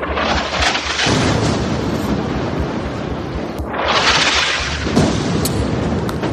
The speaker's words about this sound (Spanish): Las bombas y las ráfagas de disparos forman parte del día a día en distintas zonas del país, sobre todo en el Donbass, uno de los principales escenarios en el que están centrando la mayoría de los ataques en la región de Donetsk.